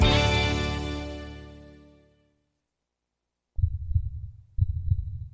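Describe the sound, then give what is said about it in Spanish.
A bright, ringing tone fades out over two seconds, then after a brief silence two deep, booming heartbeat thumps land about a second apart, loud, in a Capital Radio promo. “Escucha el latido de los mercados en Capital Radio.”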